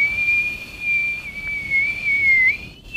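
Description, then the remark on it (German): A person whistles a single long, steady high tone that wavers slightly and dips near the end, imitating wind whistling through a door gap, with no talking. “Meine steht unter der Türklinke. Du musst dir so richtig Windgeräusche folgen.”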